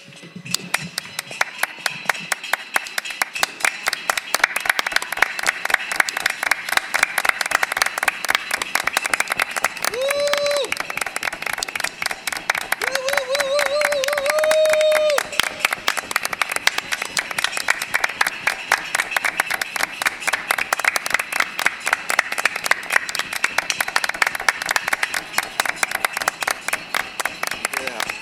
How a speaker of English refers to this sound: They're heroic what they're doing, because they're putting their lives at risk. You know what? Clap along.